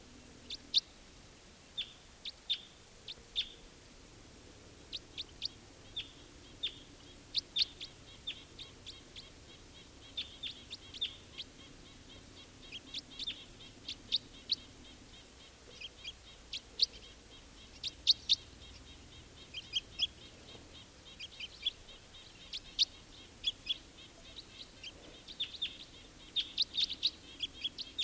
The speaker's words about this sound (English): Here's that wild bird again, giving flight calls.